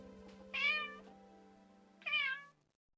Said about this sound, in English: Now apparently he used to do that when I was there, but it was the first time I actually heard a cat meow in, gosh, it had to have been a long time.